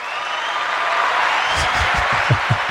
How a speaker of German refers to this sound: Also endlich applaudiert dir mal einer.